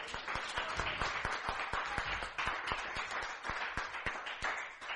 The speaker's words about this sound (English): Give the Lord a cheer, folks. Praise God.